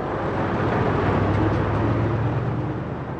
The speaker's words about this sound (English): On a road leading into Muzaffarabad, trucks arrive carrying bulldozers and heavy lifting equipment.